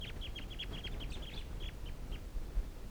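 A wild flock of waterfowl and decoy birds call in quick, repeated high-pitched notes, busy at first and then thinning out, over a steady low rumble of background noise.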